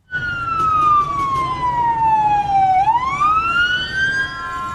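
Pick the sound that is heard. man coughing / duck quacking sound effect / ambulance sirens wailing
ambulance sirens wailing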